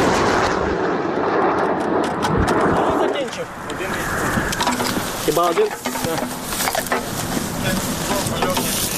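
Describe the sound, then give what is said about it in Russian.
Heavy booming shots from a Ukrainian Armed Forces Grad rocket launcher, firing at a concentration of Russian troops from fields near Bakhmut, burst out amid a constant rumbling engine and clattering machinery, with muffled voices mixed into the loud, dense noise. “«Град» Збройних сил України отримала ціль по скупченню російських військ і буде відпрацьовувати зараз прямо на ворі.”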